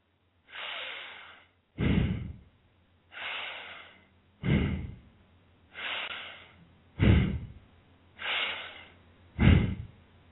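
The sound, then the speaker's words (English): Slow, deep breathing with four long inhale-exhale cycles in a steady rhythm, each breath loud and airy with a rougher, fuller exhale, done for one minute during a stretch with the left knee pulled into the chest. “The long, deep breathing, as I've been doing and showing you, is audible.”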